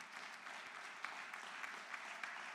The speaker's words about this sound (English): Yeah, you can clap.